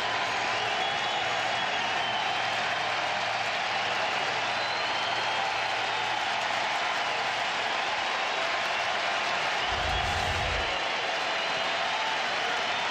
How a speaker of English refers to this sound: Packed house, and they've had a lot more to cheer about today.